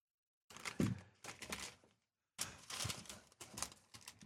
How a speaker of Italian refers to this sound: Scusate, sto voltando la pagina che è leggerissima e sottilissima.